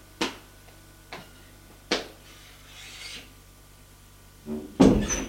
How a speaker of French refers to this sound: La femme frappe à une porte.